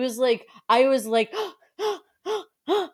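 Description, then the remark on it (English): A person lets out a series of gasps, fairly loud: two drawn-out, voiced gasps followed by three short, sharp ones at an even pace. “I was audibly gasping throughout this race, and I don't think I've done that once in like 8 months.”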